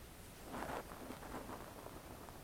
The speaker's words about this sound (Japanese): 雨も幾分小降りになっている様子である。